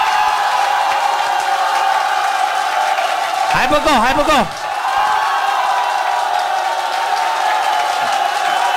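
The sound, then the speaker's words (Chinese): A loud, sustained roar of audience applause and screaming cheers, given when the speaker asks the crowd to show their excitement, fills the whole stretch, with a man's amplified voice briefly calling out over the din partway through. “所以你们来掌声尖叫声，我听听看你们的兴奋度。”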